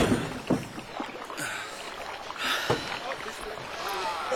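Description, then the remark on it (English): Goods being loaded into a wooden rowboat: irregular knocks and hollow thumps against the hull over a steady wash of water, with faint voices murmuring in the background. “Oh, I think that's almost all of it in the boat now, Mr.”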